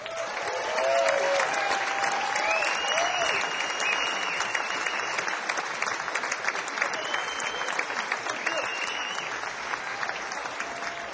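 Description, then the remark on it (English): Loud, sustained clapping from an audience welcoming songwriter Gordon Kennedy on stage, a dense rattle of many hands that holds steady for about eleven seconds, with a few whoops and cheers rising above it early on. “Please give a rousing round of applause to Mr. Gordon Kennedy.”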